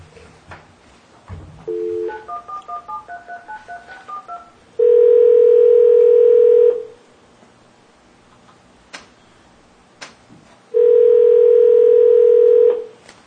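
A burst of quick touch-tone beeps punches in a phone number, followed by two long, steady ringback tones separated by a pause, clear with no voices.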